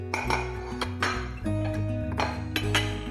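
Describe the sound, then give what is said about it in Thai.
Ceramic plates clink and ping against each other several times as a mother carries them after lunch, bright sharp clatters over a steady low hum, moderately loud, with no talking. “ว่าแต่คุณแม่ถือจานไปไหนนะ”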